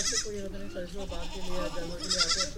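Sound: goats bleating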